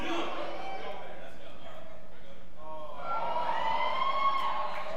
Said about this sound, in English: Don't cheer.